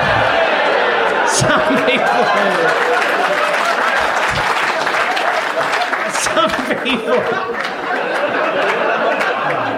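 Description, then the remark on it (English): A live audience claps steadily and loudly for the full stretch, a dense wash of applause mixed with scattered laughter and crowd murmur. “The catchphrase is not yet over. Do not applaud until the end.”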